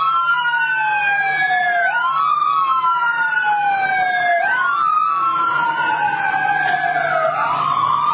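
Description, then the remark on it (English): A loud ambulance siren wails continuously as the ambulance drives by, its pitch sweeping slowly up and down in repeated cycles, with a low engine rumble underneath and no talking. “It's an ambulance driving by.”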